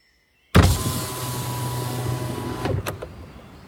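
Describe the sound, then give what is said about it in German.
A car window winds down in a stopped car at dawn with a steady motorized whir lasting about two seconds, then stops with a soft clunk and a brief rattle, alone. “Paul kurbelte das Fenster herunter.”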